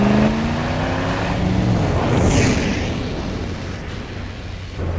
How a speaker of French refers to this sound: Hé, hey, y a une voiture qui nous suit.